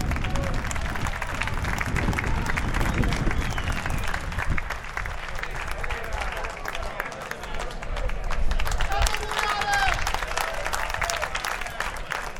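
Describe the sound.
Steady, sustained audience applause fills the whole stretch, a dense crackle of many hands clapping at a constant loudness, with a faint murmur of voices underneath.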